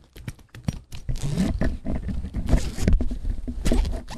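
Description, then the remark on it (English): A leather case holding a Newton MessagePad 2000 being handled: a string of rustling, scraping bursts and sharp clicks, irregular and fairly loud, filling about four seconds with no voices. “No, it's just the leather case holding my beautiful Message Pad 2000.”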